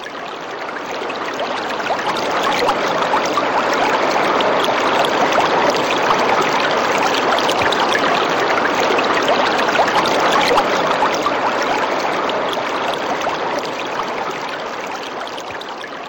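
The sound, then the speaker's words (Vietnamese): A rushing stream splashes steadily over rocks, a dense, continuous gurgle and spray that stays loud throughout, with no voices. “Vỗ đá xanh bọt ngọc bắn tứ tung, vòng quanh chảy xoáy sâu dòng thăm thẳm, chỗ trũng bờ khe nước dâng ngập trắng, lòng suối sườn non ánh bạc một vùng.”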